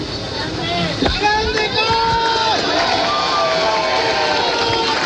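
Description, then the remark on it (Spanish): A crowd applauds steadily outdoors at an election event in Chile, with a few drops of rain falling, the clapping a dense wash of noise mixed with scattered shouts and overlapping voices, fairly loud and continuous throughout. “La gente aplaude en este momento.”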